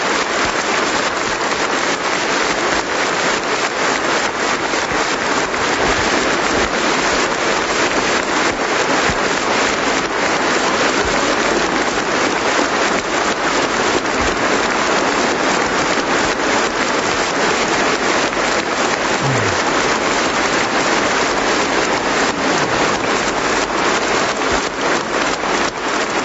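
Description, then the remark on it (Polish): A large audience applauds Catholic media Radio Maryja and Telewizja Trwam, a dense, unbroken wash of clapping that stays loud and even for nearly half a minute, with no voices breaking through. “Myślę, że te brawa są wyrazem wielkiej wdzięczności dla naszych katolickich mediów.”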